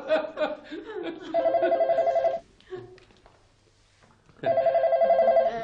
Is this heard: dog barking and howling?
no